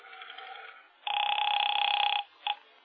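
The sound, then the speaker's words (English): A telephone ringback tone heard over the line on a call to the local police headquarters, the 25th Precinct: a faint buzzing burst, then a loud steady ring lasting about a second, followed by a short clipped start of another ring. “I'll make one call to the Irish Clubhouse.”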